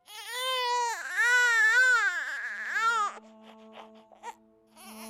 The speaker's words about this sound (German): Bereits unsere erste Lebensäußerung, der Schrei gleich nach der Geburt, wäre nicht möglich ohne dieses knorpelige Gebilde zwischen Rachenraum und Luftröhre.